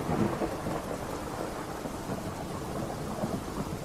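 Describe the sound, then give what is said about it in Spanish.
Steady, dense rain pours down with deep rumbling thunder rolling continuously underneath, a full thunderstorm on a stormy night, fairly loud with no voices. “En una noche de tormenta, mientras las luces parpadeantes iluminaban débilmente la morgue”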